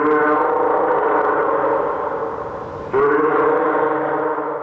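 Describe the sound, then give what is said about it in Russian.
A fur seal calls loudly, one long, harsh, harmonic bellow that dips briefly and then surges back into a second sustained phrase. No voices are heard. “Морской котик.”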